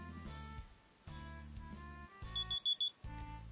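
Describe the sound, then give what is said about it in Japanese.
An alarm clock beeps in quick, chirpy bursts of high electronic tones, repeating in a steady pattern with no one talking. “すごくあの、小鳥のような、ピピピピ、ピピピピ。”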